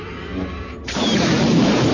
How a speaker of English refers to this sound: The explosion was sufficient to hurl Callista into the air.